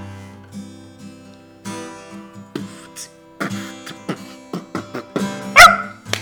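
A dog barks and yips in a series of short bursts, with whiny tones in between, ending in one louder, sharper bark.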